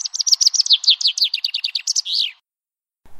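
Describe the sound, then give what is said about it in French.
A rapid series of high, sharp chirps from a white-throated dipper, a diving bird, clear, about twenty notes in quick succession ending in a buzzy trill, followed by silence. “Le cincle d'eau douce est un oiseau plongeur, mais il ne survivrait pas sans dénicher des larves frigates dans les gravières des torrents.”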